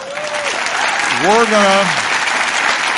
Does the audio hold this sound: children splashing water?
no